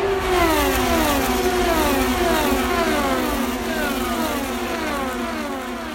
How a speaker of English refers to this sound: To me, it kind of sounded like when I first heard it, I thought it was like bees or like some kind of insect. But it's just little engines zooming by. I guess I was 3/4 correct because the tires are rubbing against the ground.